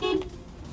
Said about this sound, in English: Look, I'm going to beep my horn. Can you hear it with the window shut? Yeah, of course you can, but